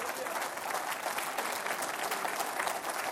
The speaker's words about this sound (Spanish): Denle un aplauso al Señor, hermano.